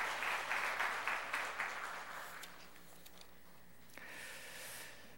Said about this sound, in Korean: 우리 큰 박수 하겠습니다.